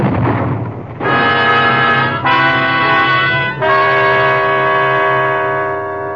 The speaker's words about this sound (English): It was a bomb, all right, and a big one. The explosion threw me to the ground. When the earth stopped tossing me around, I looked at the burning DC-4, and people were pouring towards her out of the main building.